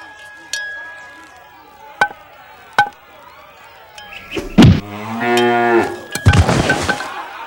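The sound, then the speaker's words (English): A person vocally imitates a cow being hit by a pitch while at bat in a Little League baseball game, letting out a long, loud, drawn-out moo after a few sharp knocks and a quiet stretch, ending in a strained bellowing cry. “and now a cow at bat in the bottom of the sixth inning of a Little League game getting hit by a pitch.”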